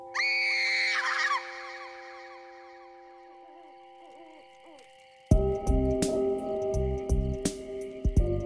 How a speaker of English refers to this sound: This time, … had reason to scream, too.